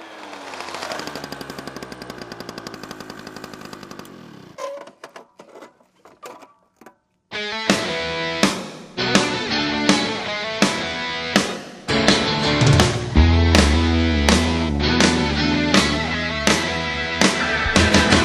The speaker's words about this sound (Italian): ma arriva il primo fesso con la moto scura e gente mi sveglia!